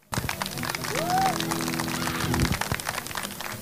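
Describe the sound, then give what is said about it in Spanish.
A crowd applauds with steady, dense clapping that fills the whole stretch, a rising whistle cutting through near the start and a low sustained hum underneath before the clapping thins out; applause at a blues music event. “Para ellos, para …, para muchos más, este aplauso en reconocimiento a lo que hicieron por la música y especialmente por el blues.”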